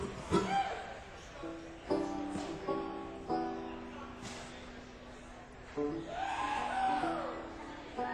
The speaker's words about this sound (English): Say right off the bat, how about another great round of applause